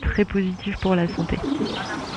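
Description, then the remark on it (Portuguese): Birds call in a quick run of short, tonal, cooing notes, fairly loud, repeating in bursts over a steady rustling background before trailing off. “O que a literatura também mostra é que, no sentido contrário, os barulhos ligados à natureza, como do vento nas árvores ou o canto dos pássaros, são muito positivos para a saúde.”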